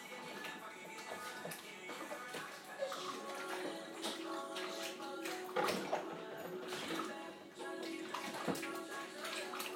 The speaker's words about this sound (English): I'm going to wash out the bottom of my Tassimov machine. Overflow bit. It's a bit yucky.